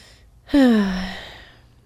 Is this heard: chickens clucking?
no